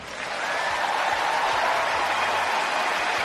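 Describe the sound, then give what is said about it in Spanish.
Sustained, dense applause lasting over a minute from a large standing audience at a tennis match at Wimbledon in London, a steady wash of many hands clapping at once that stays loud and even throughout, with no voices standing out. “Más de un minuto de aplausos”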